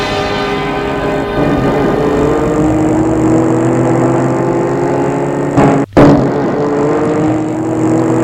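A car drives along with a steady engine drone and tonal hum, loud throughout, briefly cutting out for a moment near the end before resuming. No one speaks.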